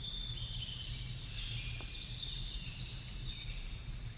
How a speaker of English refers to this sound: Hear birds chirping in the distance.